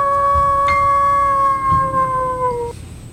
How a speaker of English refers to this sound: Why did a wolf howl? Did you lay down wolf bait or something?